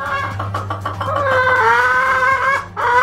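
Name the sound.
chicken clucking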